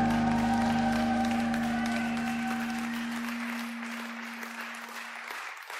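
A crowd at a Kingdom Faith Yorkshire Sunday morning meeting claps steadily and warmly for several seconds to welcome the speaker, over a sustained musical chord, which fades out while the applause carries on toward the end.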